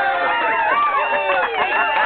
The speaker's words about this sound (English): Let's hear the crowd Yay! Again.